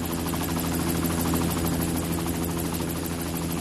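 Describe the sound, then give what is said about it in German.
A helicopter lifts off over the sea, its rotor chop and heavy engine drone steady and loud throughout, with a dense low rumble and no voices. “Der Helikopter stieg auf, flog ein paar Meter zur Seite.”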